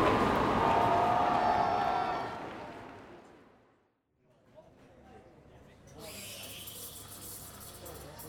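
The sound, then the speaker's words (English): A dense murmur of many overlapping voices and laughter fills a busy cafeteria, loud at first, then fading almost to silence before a quieter wash of chatter and hiss returns. “Carrie Fisher looks into a cafeteria.”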